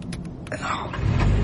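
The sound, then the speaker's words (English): A car engine started with a couple of wires cranks with a few short bursts, then catches and settles into a low, steady rumble that grows louder. “Having proved by starting the engine that you meant to unlawfully steal this car, it is my duty to inform you that you are now a prisoner in Police Provocation Vehicle 65234 and will be taken to a holding compound prior to sentence being passed.”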